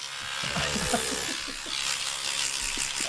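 A steady electric toothbrush buzz runs for a few seconds without a break, with faint laughter and murmuring voices underneath.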